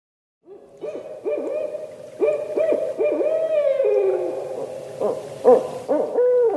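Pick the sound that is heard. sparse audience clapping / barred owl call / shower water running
barred owl call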